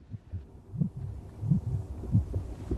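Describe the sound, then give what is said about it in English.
A heartbeat heard through a stethoscope, low muffled thumps repeating in a steady rhythm of paired beats, with a soft hum underneath and no voices. “Take a listen, Lillian. Okay, thanks. Dr. Ray hands the stethoscope to Lil, who listens to …'s chest.”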